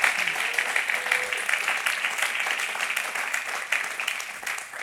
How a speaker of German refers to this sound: Aus dem Haus geben wir ihm mal einen herzlichen Applaus.